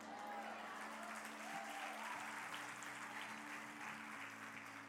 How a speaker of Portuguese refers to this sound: Você pode dizer aleluia e aplaudir?